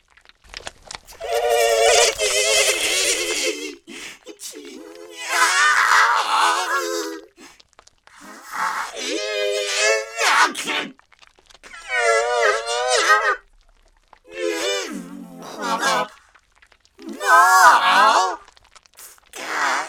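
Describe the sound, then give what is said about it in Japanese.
A series of about six loud, harsh wailing cries in bursts with short gaps, each wavering and bleating in pitch like a growling, menacing animal; a girl cries out threateningly as she springs forward, with no talking. “威嚇するように泣き声を上げながら、少女があなたの前へと踊り出て、舌打ちするように言葉を吐き出す。”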